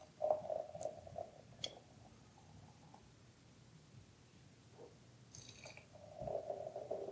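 Wheat beer glugs out of a bottle into a glass in soft, gurgling bursts, foaming up, a gurgle at the start and another near the end with quieter bubbling and brief sharp clinks between.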